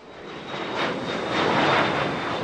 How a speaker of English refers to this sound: Planes take off all the time here, newly built jets that are then delivered to airlines like U.S. Airways or Delta. This is Embraer's main factory in Brazil's richest industrial zone.